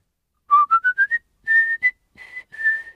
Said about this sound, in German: Könnt ihr eigentlich pfeifen? So?